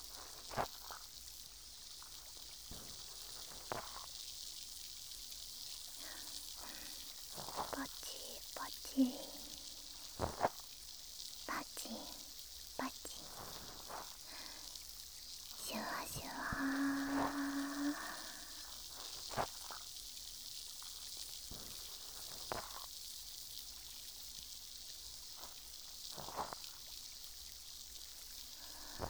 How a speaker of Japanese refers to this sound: 炭酸が弱くなってきたのでそろそろ足しましょうか。綿棒をもう一回浸して、いきますね。